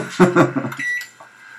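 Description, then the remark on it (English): A brief burst of voice is followed by a single sustained electronic beep from a microwave, steady and fairly loud, holding for nearly a second. “Microwave.”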